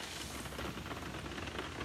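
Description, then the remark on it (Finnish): Steady rain patters on a roof hatch, a dense, even spray of tiny drops with no pauses. Fairly quiet, with no voices. “Kuunnelkaa nyt. Taivaski itkee. Kyyneleet ropisee kattoluukkuun.”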